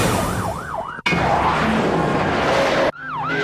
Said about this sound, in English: Georgetown, Kentucky. The shriek of sirens on the quiet night warns the countryside a high-speed pursuit is in progress. These two police cars are following a speeder, but what started out as a simple car stop has turned into a chase